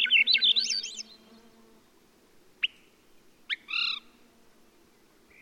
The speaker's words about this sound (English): Characteristic sound of a beautiful forest. This species of thrush has a very distinctive upward spiral.